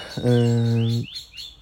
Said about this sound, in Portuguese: vejam lá, vamos ver se agora ouvem os pássaros. Ouviram agora?